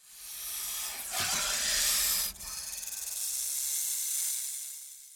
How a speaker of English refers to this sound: Gopher snakes in Arizona are not poisonous, but when frightened, they may hiss and shake their tails like rattlesnakes.